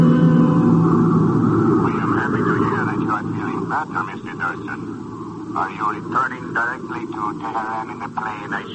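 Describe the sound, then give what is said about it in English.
A steady, droning airplane engine hums loudly throughout, strongest at the start and easing slightly, while people talk over the continuous rumble. “Are you returning directly to Tehran in the plane I sent for you?”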